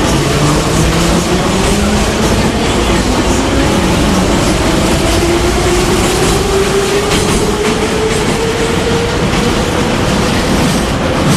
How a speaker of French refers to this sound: Ah, le métro, ça décoiffe. Ça me fait très plaisir d'entendre ce son, parce que c'est vraiment le son de la vie quotidienne.